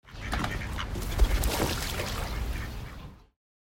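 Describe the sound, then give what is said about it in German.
A duck takes off with a flurry of flapping wings and calls, then splashes down onto water, all within a few seconds, loud, with no talking. “Eine Ente, die davonfliegt und im Wasser landet.”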